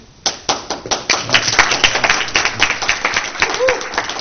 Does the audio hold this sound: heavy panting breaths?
no